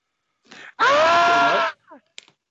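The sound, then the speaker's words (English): A man lets out a loud, sustained scream lasting about a second, imitating the wrestler Norman Smiley, with a short breathy lead-in and a few trailing yelps afterward. “you're screaming Norman Smiley.”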